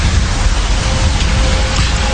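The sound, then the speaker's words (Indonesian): Steady, dense rain falls at night, making the road slippery. It hisses without pause, a loud continuous wash of fine droplets with a low rumbling undertone throughout. No voices are heard. “Karena jalan yang dilalui, kupikir akan berbahaya jika terlalu kencang mengendarainya, ditambah hujan buat jalanan licin.”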